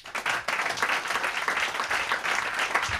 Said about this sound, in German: Und natürlich an die Kölner Wohngemeinschaft für die sehr freundliche Gastgeberschaft. Hätte ich auch gerne nochmal einen großen Applaus.